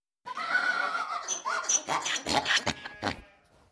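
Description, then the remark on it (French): A male donkey brays once, loud, starting with a long drawn-out tone and breaking into rough, rhythmic gasping heehaws before trailing off, with no other sounds around it. “L'âne braie.”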